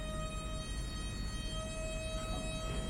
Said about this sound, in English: That's our radiator screeching. I thought maybe there was a fire alarm. No, it's just providing heat for the 20-degree day.